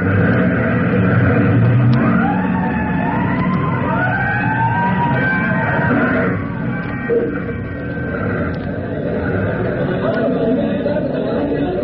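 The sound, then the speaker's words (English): A fire truck siren wails in long rising and falling sweeps, loud over a steady low rumble and murmuring crowd chatter, then fades partway through as the noise continues. The fire trucks are at a small trash fire in an areaway on Dulcimer Street, with a crowd milling around them. “But the usual crowd gathers, surging and milling around the big fire trucks.”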